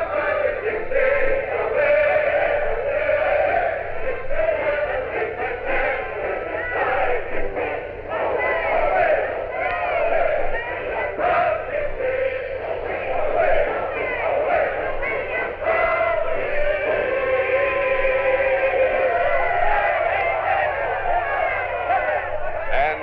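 A large crowd sings the words of Dixie loudly together, voices massed and continuous, with a band playing Dixie underneath, the whole sound steady and full throughout without pauses.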